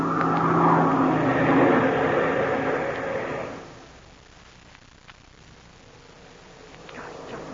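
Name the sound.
airplane engine throttling down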